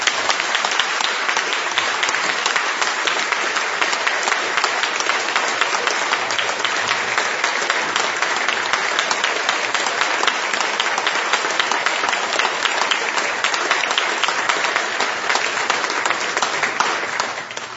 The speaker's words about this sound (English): a tremendous round of applause for your service to us.